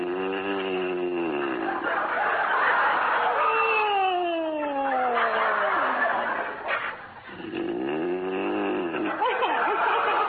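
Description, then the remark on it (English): Loud, exaggerated snoring from a man asleep in the darkness, with long rasping inhales and a whistling, descending exhale between them, repeating in slow cycles with no talking. “there must be something that'll put a stop to that hideous snoring.”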